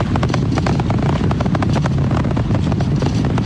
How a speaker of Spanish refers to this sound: Como vibraciones, eso creo que es lo que uno escucha, ¿no? Y los motores están aumentando su fuerza de nuevo para continuar el ascenso hacia el espacio.